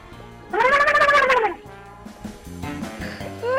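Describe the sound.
A person imitates a turkey gobble with a loud, warbling vocal burst lasting about a second, followed by quieter background sounds and music.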